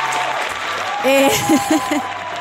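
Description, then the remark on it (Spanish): An applause sound effect: a steady wash of crackling clapping that fills the whole clip, with a few short vocal calls or whoops rising over it midway. “Un aplauso para el compañero Jabo.”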